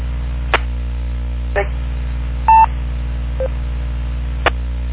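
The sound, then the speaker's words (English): EchoLink disconnect beeps as a station drops off a radio net: a short, loud electronic tone and a fainter, briefer one after it. Both sit over a steady low radio hum with a few sharp clicks and no talking. “I think he just dropped off echo. He sounded like he might have been on echo link.”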